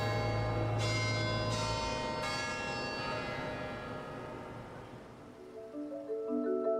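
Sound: church bells chiming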